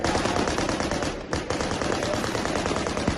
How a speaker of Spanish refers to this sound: Disparos de celebración.